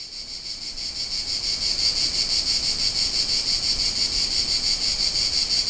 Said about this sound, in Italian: Nascoste nelle parti più alte dei tronchi, le cicale sono in piena attività. Il cicalio è a tratti costante. Ogni tanto rallenta e accelera.